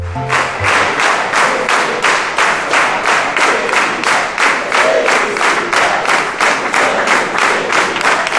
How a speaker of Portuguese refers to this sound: Palmas pro seu Walter.